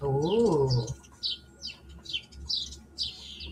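Birds chirp outside in a busy, repeated series of high, bright calls, opening with a lower warbling coo-like phrase before quick tweets continue steadily at moderate loudness.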